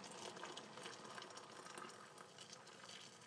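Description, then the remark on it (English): Tea poured steadily into a cup, a continuous splashing hiss of liquid lasting a few seconds with no pauses and no voices. “Here's the tea going in.”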